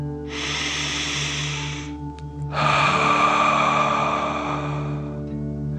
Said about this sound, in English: Before we begin our story, let's relax by taking 3 deep dragon breaths. Breathe in through your nose, filling up your belly, and then out through your mouth, pretending you're breathing fire. Ready? Deep breath in and out.